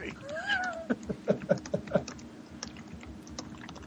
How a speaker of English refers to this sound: Who's typing?